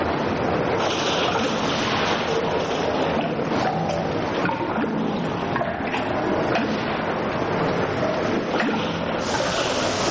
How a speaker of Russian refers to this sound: И под микроскопом страшно, чудовищные капли врезаются в воду и взрываются.